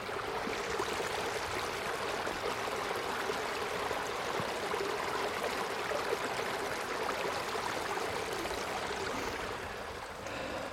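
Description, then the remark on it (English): A small stream (burn) burbles steadily over stones, a continuous rush of bubbling water with no voices, holding an even level throughout before easing slightly at the very end. “And you can hear where it sort of burbles down.”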